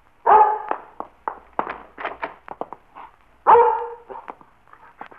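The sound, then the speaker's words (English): A dog, Mike, barks: two loud, full barks about three seconds apart, with a rapid string of shorter, softer yaps and whimpery sounds in between. No one speaks. “Oh, Lord love the foolish dog, but I'd hate for the dog catcher to be getting him.”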